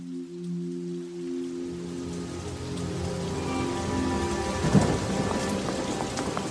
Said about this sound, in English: My favorite episode was Shut Up. Oh, yeah. That was so good. Where you put like the music underneath. And it was raining behind.